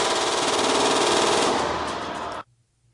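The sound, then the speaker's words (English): Rapid gunfire rattles in a dense, continuous burst of loud shots lasting over two seconds, with ejected cartridges hitting the camera set up to film it, then cuts off abruptly into near silence with a faint low hum. “But it was like the cartridges were coming up perfectly and hitting the camera where we'd set it.”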